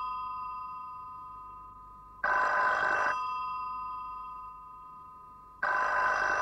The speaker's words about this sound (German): Nicht ans Telefon.